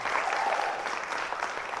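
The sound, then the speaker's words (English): A crowd applauds steadily, dense overlapping claps at an even, fairly loud level with no voices standing out. “Make a round of applause for Prince William one more time”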